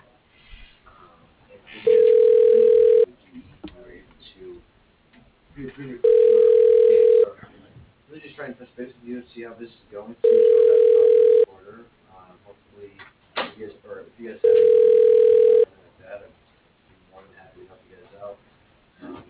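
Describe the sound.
A telephone ringback tone sounds four times as a call is transferred to the receptionist, each a steady, loud mid-pitched tone about a second long, evenly spaced, with a voice talking between the rings over a narrow phone line.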